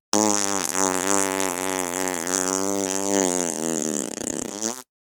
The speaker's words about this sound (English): Yep, farts.